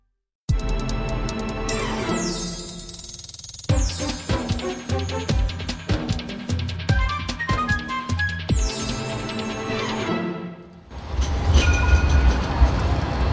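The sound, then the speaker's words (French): A tram rumbles past on a city street at Town Hall in Sydney, its wheels clacking and squealing over the rails with a bright metallic ring, then a louder burst of rolling noise as it moves on. “à quelques pas de la ligne de tramway, Marion a installé sa toile”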